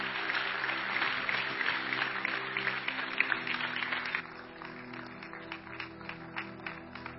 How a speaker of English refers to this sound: Let's give these folks a big, big hand clap as they're coming.